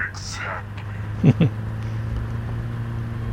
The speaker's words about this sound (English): Hold the opposite side of the screen, well, and let go. And you can hear the car go...